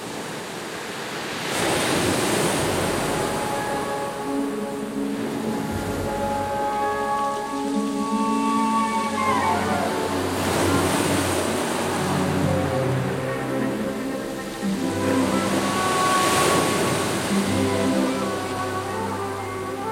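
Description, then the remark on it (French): Ocean waves surge and break in slow, recurring swells, a loud rushing wash rising every several seconds, with sustained musical tones playing underneath. “Avec quels sanglots il pleurait sa patrie, en se traînant au bord des vagues mugissantes.”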